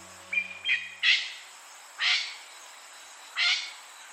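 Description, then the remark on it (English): A golden pheasant, a game bird native to China, gives a short run of harsh, rasping calls, a few quick notes followed by three louder, evenly spaced squawks, against a faint background hiss. “Myths about fiery birds may have been inspired partly by the golden pheasant, a bird native to China.”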